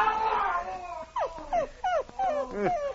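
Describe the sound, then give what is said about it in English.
A nervous dog whimpers anxiously, unsettled by a person's howling: a drawn-out whine followed by about five short, high, downward-sliding whines in quick succession, moderately loud. “That howling even makes your dog nervous.”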